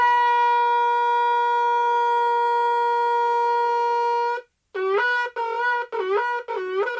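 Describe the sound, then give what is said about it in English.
A shofar sounded for Rosh Hashanah gives one long, steady, brassy blast, pauses briefly, then four short broken notes, each dipping and bending in pitch. Loud and alone, with no voices. “The howling sound of the shofar causes us to tremble, to shake us up a little bit, and bring us back to the state of the unblemished soul.”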